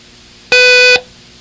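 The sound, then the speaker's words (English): A single steady electronic beep with a bright, buzzy harmonic tone, held for about half a second and loud against near silence before and after; a long beep in a listening exercise contrasting long and short beeps. “I want you to write dang, D-A-N-G, for each long beep, and a it for each short beep.”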